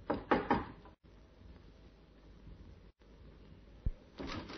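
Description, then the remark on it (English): Three sharp, loud knocks on a wooden door of a small flat in a good residential district, in quick succession, followed by a quiet pause, one dull thud, and a short shuffling noise at the end. “But instead, he knocked.”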